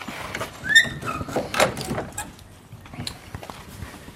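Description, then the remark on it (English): An enclosure door in Lithgow slides and scrapes open with a brief metallic squeal, followed by clunks and rattling handling noises, then quieter shuffling. “But I'll just open the door for you.”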